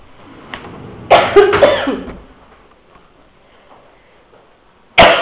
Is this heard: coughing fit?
yes